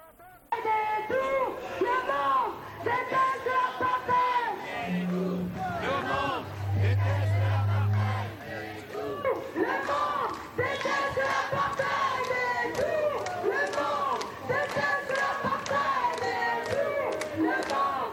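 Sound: protest crowd chanting slogans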